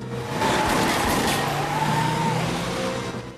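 Two people race to a Jeep, get in and speed away: a steady engine roar and a brief squeal of tires, the sound holding loud throughout before easing slightly at the end. No one speaks.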